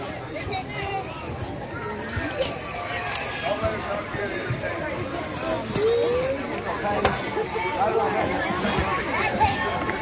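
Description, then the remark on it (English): A steady murmur of crowd chatter at a softball game in the top of the fourth inning as Paige Bednar comes up to bat, many overlapping voices blending into a continuous hubbub at moderate volume, with occasional sharper knocks and a brief rise partway through. “Now the crowd's really getting into it as they want to see some fireworks, and Paige Bednar's looking to give it to him.”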